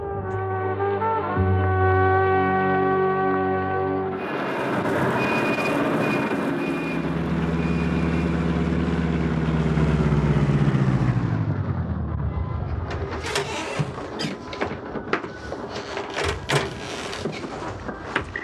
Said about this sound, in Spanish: De regreso a su casa, Maribel ha detenido el auto en la placita aquella donde se citara en la mañana con Rolando.